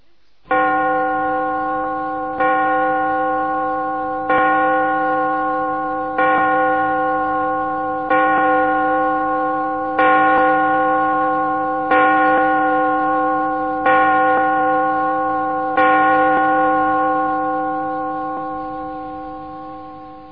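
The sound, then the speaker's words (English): A clock chimes nine slow, evenly spaced strikes, each a loud, ringing bell tone that hums on and overlaps the next before fading out at the end. “Listen to the clock.”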